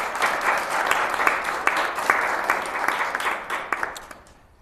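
A crowd applauds steadily, dense overlapping claps forming a bright, sustained patter that holds for several seconds before thinning and fading out at the end.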